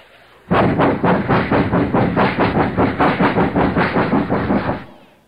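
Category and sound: vehicle, train running on rails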